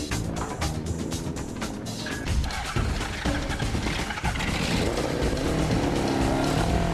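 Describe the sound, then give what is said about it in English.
A small motor engine for a motorised egg-flinging machine runs with a loud, continuous buzzing drone that stays steady for several seconds and grows slightly stronger toward the end, with no talking. “While the ballroom dancers are still missing a working engine for their motorised egg-flinging machine.”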